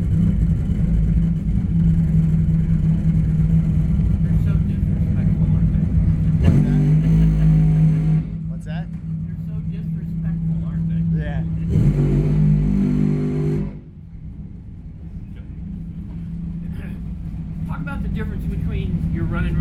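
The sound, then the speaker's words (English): A race car's backup engine drones loudly and steadily, rising in pitch in a few revving surges before dropping back to a lower, rougher idle near the end. “this is actually my backup motor that I'm running”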